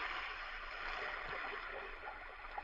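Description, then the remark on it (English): Hydrofluoride and aqua regia are poured steadily into a container to dissolve a powder, a continuous gush of splashing, gurgling liquid that holds at an even level for a few seconds with no voices. “Pour in the hydrofluoride and aqua regia. That is what I am doing.”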